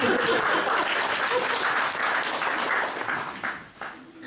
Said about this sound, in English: Please, a big round of applause from my assistant